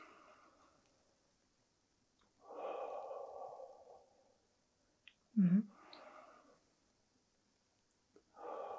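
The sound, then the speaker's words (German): Audible breathing during a breathing exercise: a few slow breaths in through the nose and out through the mouth, with a sharp, forceful nasal sniff partway through. No one speaks. “Durch die Nase ein, durch den Mund raushauchen.”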